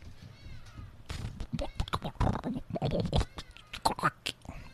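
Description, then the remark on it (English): A person vocally imitates a hungry, rumbling stomach with a continuous run of gurgling growls and wavering, squeaky rising tones, moderately loud, lasting a few seconds. “My tummy rambling.”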